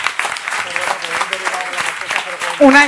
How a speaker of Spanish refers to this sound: para los que están pendientes del streaming, que, bueno, que los compis de Comunia se están metiendo un currazo y molaría en algún momento darles un aplauso a ellos.